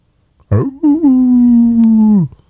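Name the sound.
voice imitating a howl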